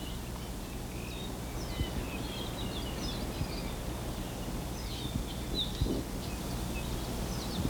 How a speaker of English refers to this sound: The squeaky sounds are probably Apapanis. The more buzzy ones, there, that was an Amakihi.